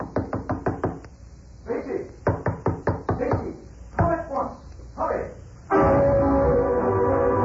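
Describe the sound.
Rapid bursts of loud knocking on a door in the middle of the night, about five sharp raps each, with muffled calling voices in between, ending in a steady rushing noise.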